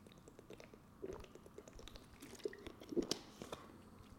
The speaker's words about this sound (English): So I'm gonna take a sip of this water,